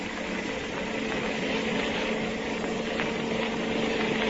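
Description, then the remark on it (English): A motorcycle engine roars at speed in a steady, loud drone with a constant humming pitch as it chases a car on the road to Lover's Leap, running unbroken for the whole stretch with no voices. “Now, this motorcycle can certainly travel.”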